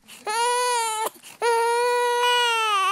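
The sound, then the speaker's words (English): A newborn baby whimpers and cries in two long, loud, sustained wails, separated by a brief gasping pause, with no one talking, at a FARC guerrilla camp near the village of Conejo in northern Colombia. “The whimpering of newborns is an increasingly common sound at guerrilla camps, like this one near the northern Colombian village of Conejo.”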